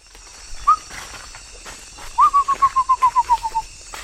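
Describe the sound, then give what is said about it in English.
A bird sings in the Brazilian Amazon jungle under a high canopy during an evening birding session: one clear whistled note, a pause, then a quick run of about a dozen whistles that slowly slide lower, over a steady hum of forest insects. “Oh, something good singing here. Listen up for a sec.”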